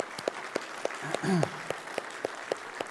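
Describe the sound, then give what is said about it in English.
Light audience applause for a 2023 graduate: a sparse, steady run of sharp claps at an even pace, fairly soft overall, with a brief vocal sound rising and falling partway through. “Everybody give him applause.”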